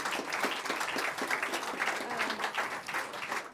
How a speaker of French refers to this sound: Je crois qu'on peut l'applaudir.